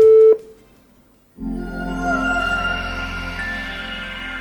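A short telephone ringing tone sounds once at the start as a phone call is placed, loud and clear, then cuts off into a second of silence before a dense, steady buzzing hum takes over.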